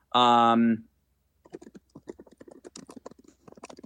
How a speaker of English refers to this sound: Apologize, you guys can hear my typing.